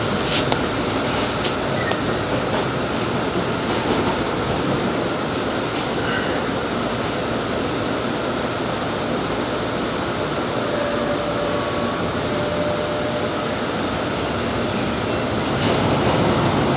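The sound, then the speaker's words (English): A light rail train bound for Cleveland Circle rolls steadily between stops toward Tappan Street, a constant loud rumble of wheels and motors heard from inside the car, with a faint high whine briefly rising midway. “The destination of this train is Cleveland Circle.”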